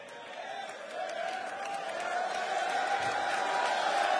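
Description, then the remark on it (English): An audience shouts and claps together in a victory shout, a dense, sustained roar of many voices with scattered cheers, steadily building in loudness over a few seconds. “That's the victory shout. That's the battle cry.”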